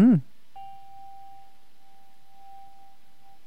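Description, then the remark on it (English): After a brief fragment of a voice, a single Tibetan bell is struck and rings out with a clear, steady, sustained tone that lingers evenly for several seconds. “Now the Tibetan bell.”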